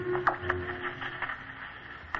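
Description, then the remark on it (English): Crackly static from a radio set with a faint steady hum and scattered sharp pops, shifting slightly as if a dial is being turned between stations, none of which are on; fairly quiet and with no voices. “Can hear static, but none of the stations are on now.”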